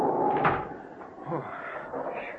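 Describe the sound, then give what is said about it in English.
A door opens and swings shut as people hurry inside out of the wind, with a muffled knock early on and a second bump about a second later, set against a steady rushing background noise. “We don't have to knock. We walk right in.”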